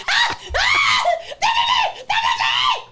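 human body sound, woman screaming

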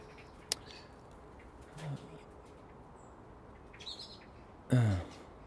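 bird, birds chirping outdoors

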